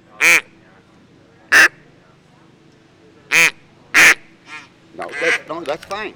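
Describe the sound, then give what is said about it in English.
Four loud, nasal quacks from a handheld duck call, a small barrel with a mouthpiece and reed, spaced irregularly, followed by a person beginning to talk. “Jan's using a device to make his duck call.”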